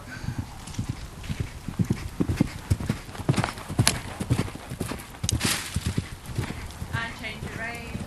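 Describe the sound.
A ridden female pony's hooves clip-clop steadily in a rolling canter rhythm, fairly loud, with indistinct voices faintly in the background.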